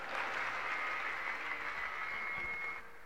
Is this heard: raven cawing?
no